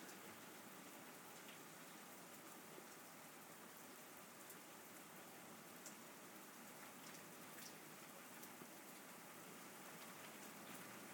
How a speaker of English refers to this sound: That is beautiful sound of rain.